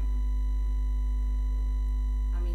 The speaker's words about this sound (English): bloody alarms on my phone.